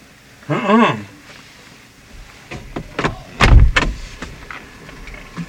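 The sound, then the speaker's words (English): A short vocal cry, then a burst of irregular knocks and thuds as a girl runs against a man's house door and breaks it, one heavy low bang in the middle, loud, before it goes quiet. “but that girl there, run against the door and bust the man door, just tap the man's house.”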